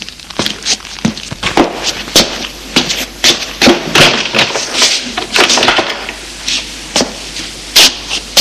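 A key rattles and turns in a lock and a door is pulled open, a loud, irregular run of sharp clicks, clacks and knocks with no voices.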